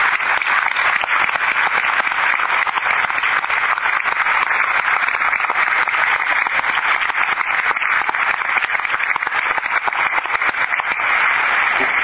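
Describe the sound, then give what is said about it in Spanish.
A crowd applauds steadily for about twelve seconds, a dense, even patter of many hands clapping with no pauses or voices, sounding somewhat thin and muffled throughout, honoring the effort and work of the organization's directorate over the previous five years. “Por tanto, me parece que debemos rubricar con un fuerte aplauso el esfuerzo y el trabajo llevado adelante en estos 5 años anteriores por esta dirección.”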